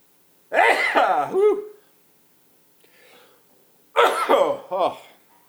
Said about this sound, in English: Anyway, I think I have to sneeze. Hold on.